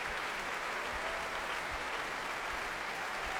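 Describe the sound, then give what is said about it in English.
A large audience at the Proms applauds, stamps and cheers after the finale of a performance of the Sixth Symphony, with the orchestra on their feet. A dense continuous wash of clapping with regular low thuds of stamping feet underneath, sounding full and sustained throughout. “Much applauding and stamping and cheering from the audience.”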